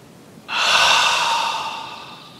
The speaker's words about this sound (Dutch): De frisse winterse lucht door mijn neus naar binnen. En zachtjes naar buiten als warme wolkjes in de lucht.